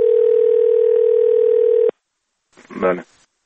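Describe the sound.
A loud, steady telephone dial tone hums for about two seconds as a published complaint line of the president's office is tested, and cuts off abruptly. After a short silence, a brief voice answers, as if someone picked up the line.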